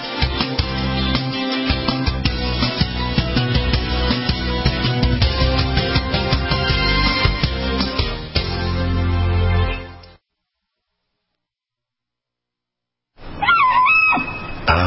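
A woman's loud, high-pitched scream with a wavering rise like a bull elk bugle, as her RV sewage tank spews over her camper in elk country. It bursts in after a few seconds of silence that follow a long stretch of dense, loud noise.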